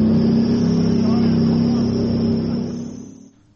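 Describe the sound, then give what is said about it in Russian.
Heavy tank engines rumble and rev loudly, a steady deep drone with a high whine on top, fading away near the end as tank crews drive off back into battle after loading ammunition and checking the vehicles. “Після завантаження боєкомплектів та перевірки машин танкісти знову відправляються у бій.”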